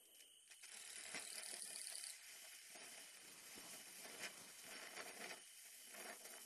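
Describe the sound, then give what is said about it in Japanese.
A small Japanese senko hanabi sparkler crackles and hisses, a steady fizzing broken by dense, irregular tiny pops and snaps that flicker throughout without any talking. “久しぶりですね、線香花火。小さい花火ですけど、こうやって目の前に浮かべると、”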